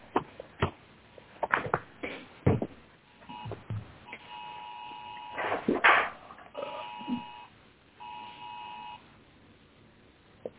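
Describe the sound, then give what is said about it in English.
Several steady electronic beeps sound in short bursts of about a second each, mid-volume and somewhat muffled, mixed with scattered clicks and thumps of handling noise and no talking. “I heard beeping.”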